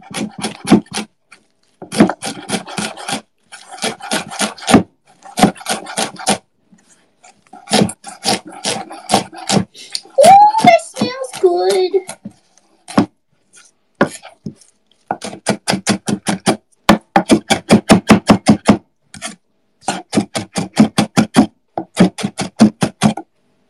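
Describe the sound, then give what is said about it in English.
A knife chops cilantro on a cutting board in quick, steady bursts of crisp taps, pausing briefly between runs, with a brief squeaky sound partway through. “Finally chop your cilantro.”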